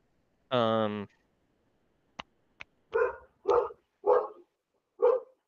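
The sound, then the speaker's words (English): A female pet dog named Sadie lets out a drawn-out, whining yelp, then after two sharp clicks gives four short, loud barks in an uneven rhythm, with quiet gaps between them and no talking. “She's just a dog. I don't know why she's barking.”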